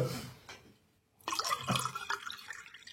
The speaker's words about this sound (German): Komm hier, ich gieße mal einen Eierlikör. Danke.